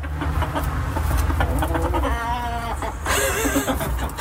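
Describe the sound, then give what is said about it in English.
Chickens at a newly rebuilt egg-laying nest cluck and call, with a few drawn-out, wavering tonal squawks rising above a steady low background rumble, and no one speaking. “I think that's a thank you, we love it, in chicken language.”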